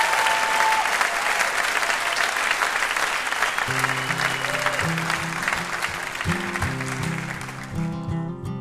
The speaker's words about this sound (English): Thank you so much, Piper. How about a huge round of applause for our VIP, Piper Kerman?